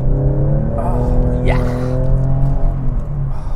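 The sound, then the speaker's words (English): A car engine drones loudly, its pitch climbing briefly as it revs up to 6,000 RPM before settling into a strained, sustained roar at high RPM. “Big 6,000 RPMs there. This car, I've just recently discovered about how much this car likes to rev up to 6,000 RPM and how much fun it is when you get the engine up that high.”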